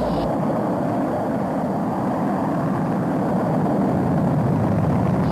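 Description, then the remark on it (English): A deep, continuous roar of the Apollo 11 rocket's engines at liftoff on July 16, 1969, carrying three astronauts to the moon, loud and steady throughout, a dense rumbling wall of sound with no voices over it. “The Apollo 11 rocket took off with three astronauts headed for the moon, and two of them walked on the lunar surface 4 days later, the first people to do so.”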